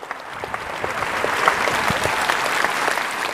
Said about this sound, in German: Am Ende gibt es tosenden Applaus. Die Zuschauer sind begeistert.